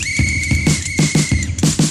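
A single long, steady high-pitched whistle blast holds for over a second, riding over a bouncy beat of rhythmic bass thumps before cutting off.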